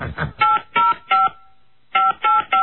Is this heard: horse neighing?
no